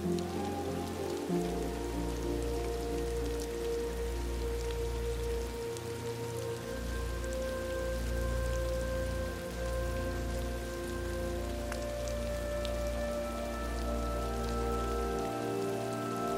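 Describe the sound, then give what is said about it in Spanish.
Steady rain patters continuously on a hard surface, even, with a soft sustained humming drone underneath and no voices. “Como si la lluvia fuese la liberación de todo aquello cuanto has estado reteniendo en tu interior.”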